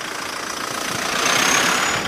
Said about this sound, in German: Stop-and-go-Verkehr auf der Oderbrücke. Fußgänger und Fahrradfahrer können die deutsch-polnische Grenze weitgehend ungehindert passieren. Die von Polen kommenden Autofahrer müssen warten.